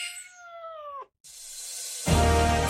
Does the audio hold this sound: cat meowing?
yes